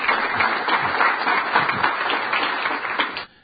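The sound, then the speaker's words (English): A crowd at a forum applauds steadily, a dense wash of many hands clapping at an even, fairly loud level before it cuts off abruptly near the end. “In these forums, you don't see that very often where somebody's applauded like that, and you can see the kind of guy Coates has.”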